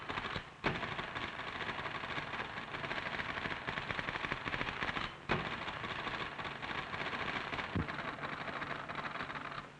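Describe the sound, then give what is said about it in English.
Rapid typewriter typing by a typist speeding up from 100 to 125 words a minute: a dense, continuous rattle of crisp key strikes at high speed, steady and loud for the whole stretch, with a couple of brief sharper clacks standing out. No voices. “In less time than it takes to tell, she was typing at 100 words a minute.”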